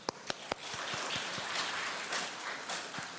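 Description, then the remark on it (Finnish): A lecture hall audience at a university info session breaks into applause for the attendees, a few sharp claps at the start quickly filling into a dense, steady patter of many hands that carries on evenly for a few seconds, with no voices. “Ja mun mielestä me voitaisiin ottaa tähän alkuun semmoiset pienet aplodit teille.”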